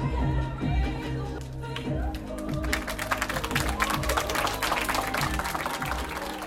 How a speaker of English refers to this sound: As the credits rolled, the Southeast kids gave the movie a few courtesy claps.